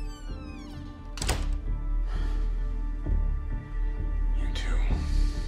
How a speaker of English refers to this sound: Watching after her, he closes the apartment door and leans against it.